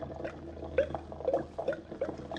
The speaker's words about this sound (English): That yellow stuff I got dripping into this blue stuff at the rate of one drip per 2 seconds seems to be turning the blue stuff green stuff. Now to increase the drip speed and see if it makes any difference.